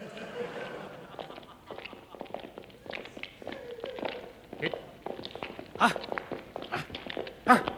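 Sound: footsteps approaching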